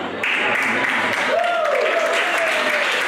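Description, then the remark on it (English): A crowd bursts into steady, dense applause that holds at full strength throughout, with a sustained whistle rising over the clapping about halfway through. “Statistically, too many of you are applauding, but...”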